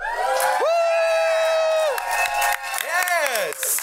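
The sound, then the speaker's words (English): An audience cheers loudly, with several voices yelling and whooping together in long, high, sustained shouts, followed by a second burst of rising and falling yells. “I need a cheer. Give me some fucking enthusiasm.”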